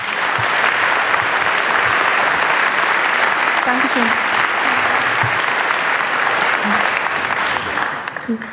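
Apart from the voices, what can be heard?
audience applause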